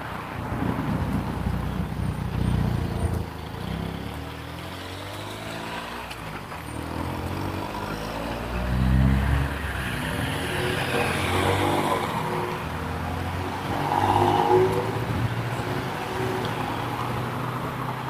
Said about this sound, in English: Five cars at that one intersection. It's a busy, busy exchange right there.